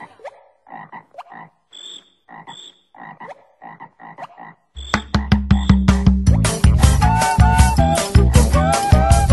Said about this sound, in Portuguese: É assim que o sapo canta na lagoa, sua toada improvisada em 10 pés.